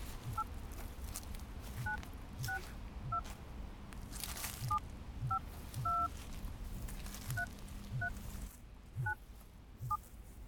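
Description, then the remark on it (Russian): A telephone number is being dialed: a dozen or so short touch-tone beeps at an uneven pace, each a clear two-note chirp over a steady background hiss, with no one talking. “Сейчас он находится на самой дальней точке пастбища, поэтому, чтобы его услышать, нам придется связаться с ним по телефону.”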